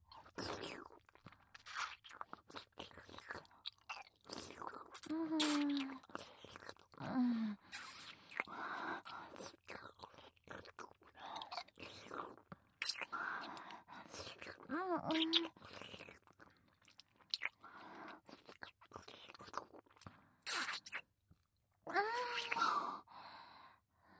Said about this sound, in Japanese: お口とろけてしまいそうでした。いやらしいキス、とても素敵でしたよ。